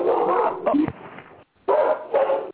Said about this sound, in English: The dog. Yeah, the dogs.